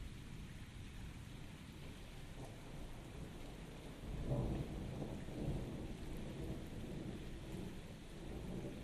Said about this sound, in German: Zähle 21, 21, 21 von Donner nach Blitz.